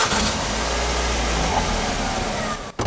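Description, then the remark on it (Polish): A car engine runs steadily at a low, even rumble, fairly loud, with a brief dip just before the end and no one speaking. “skoro ważne jest to, co pod silnikiem, to jeżeli moglibyśmy posłuchać, jak on działa”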